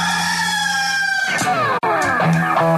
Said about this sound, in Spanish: Este es el gallo.